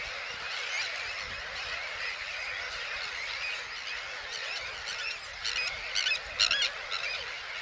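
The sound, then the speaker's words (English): A dense flock of birds with white bodies and grey wings, gathered on small islands about 50 feet away, calls continuously in a steady, noisy din, with sharper squealing bursts breaking out near the end as some fight each other overhead. No one speaks. “I'm now about 50 feet from the main bulk of these islands where these birds are hanging out, and they're making a hell of a din.”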